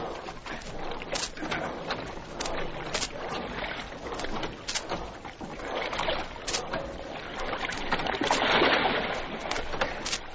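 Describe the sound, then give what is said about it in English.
Oars splash and knock in a steady rowing rhythm as a dinghy is rowed through water to go after a man in the water, with continuous watery wash and a faint bird cooing in the background. “I'll take an oar.”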